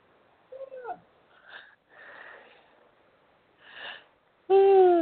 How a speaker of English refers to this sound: Yeah. Stop yawning.